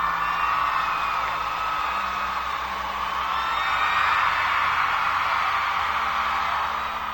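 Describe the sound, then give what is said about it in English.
A crowd-surge cheer plays on a live radio show first thing on a Monday morning. The crowd cheers and whoops continuously in a dense wash of voices that swells slightly midway and stays loud and steady throughout, with no clear individual speech. “It's always nice to get a crowd surge like that first thing Monday morning, right?”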